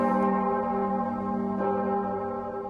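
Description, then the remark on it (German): A large, newly cast bronze bell rings out in a tall foundry hall, its deep layered overtones humming steadily and loudly, with a second stroke renewing the tone partway through. No one speaks. “Mächtig schwingen die Töne durch die hohe Halle der Gießerei.”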